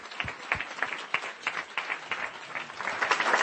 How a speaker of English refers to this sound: So with that said, let's give them a round warm of applause.